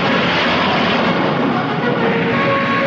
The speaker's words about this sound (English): Another Mosquito heads down the fjord. The bursts of flak jolt the cockpit, but the plane keeps going.